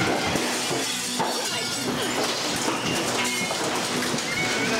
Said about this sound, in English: Hail the size of softballs destroy thousands of homes and autos. Terrifying storms blasting up to softball-sized hail.